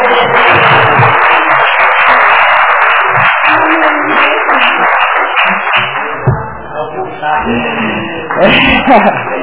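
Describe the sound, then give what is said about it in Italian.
Sustained, loud applause from many people in a parliamentary chamber for a staff official who has just married, a dense patter of clapping that keeps going for several seconds, thinning briefly before swelling again near the end. “Prima di fare l'appello, signori, fra un secondo facciamo l'appello, però vorrei chiedere all'Aula, se mi ascolta, un applauso alla nostra funzionaria”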